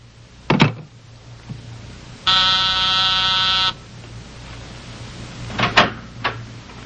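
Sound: office intercom buzzer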